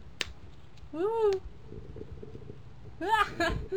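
A cat meows twice, two drawn-out rising-and-falling calls about two seconds apart, clear over a low, rumbling background with a sharp click near the start.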